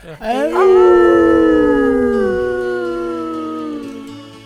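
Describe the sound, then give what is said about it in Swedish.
Several people howl together like dogs or wolves, loud, voices sweeping up into a long sustained wail that slowly slides down and fades over a few seconds. “Då ylar vi på det.”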